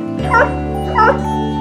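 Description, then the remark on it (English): A dog barks twice, two short evenly spaced yaps about half a second apart, heard over a steady sustained tone in the background. “Hey, do you want to count the dogs in the dog parade?”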